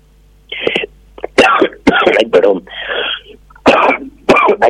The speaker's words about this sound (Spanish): Ataque de tos, perdón.